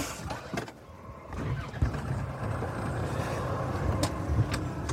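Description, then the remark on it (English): A Land Rover engine runs with a steady low rumble throughout in fine drizzle, broken by sharp metallic clunks and grinding crunches as the gearbox is rubbed around to find a gear, with no one speaking. “The gearbox on this thing seems to be a bit of a soup dragon.”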